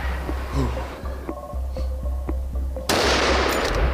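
rifle gunshot

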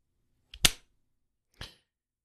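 finger snap

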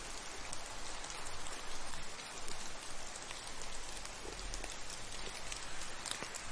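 distant rain falling

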